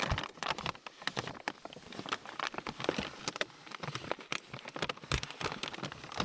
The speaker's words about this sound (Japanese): あ、カップだけど紙袋か。まあ、紙袋のいい音するもんね。